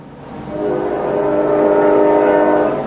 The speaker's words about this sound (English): Oh, sorry, there's a train. Hold on.